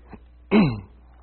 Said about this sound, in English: Well, that cough is just sticking around for everybody.